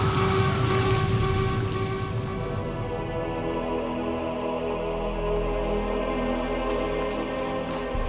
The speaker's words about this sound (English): A helicopter? Could you have left at any time? No. This belongs to number two. It's how he got here.